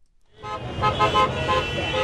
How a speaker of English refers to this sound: That may sound like normal LA traffic, but it's actually cars honking in support of picketers outside the Disney studios in Burbank.